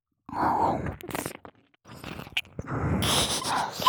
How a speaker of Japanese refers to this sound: その上でさらに、お前の大好きな耳なめも追加して追い込みます。